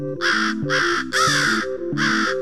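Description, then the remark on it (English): Four loud, harsh crow caws in a steady sequence, clear, each a raspy nasal call with brief gaps between them, no voices present. “Driving the same route each day, Kelson noticed as new birds returned with the spring migration and how crows would fly off to roost together at night.”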